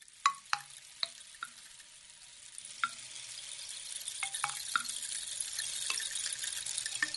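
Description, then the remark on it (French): Rain taps against a window pane in sharp, irregular drips, some louder than others, over a steady soft hiss of falling water. No voices. “C'est la pluie, mon angelot, qui tape sur le carreau.”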